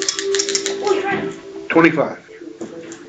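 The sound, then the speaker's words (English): Dice rattle and clatter across a hard surface in a quick burst of sharp little clicks while voices murmur in the background. “Roll for some tall dice.”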